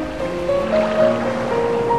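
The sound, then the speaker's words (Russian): Ocean surf rolls in with a steady, continuous rushing wash and gentle swells in loudness, with a faint sustained tone humming underneath; no voices are heard. “Вы слышите только глубокое дыхание прибоя.”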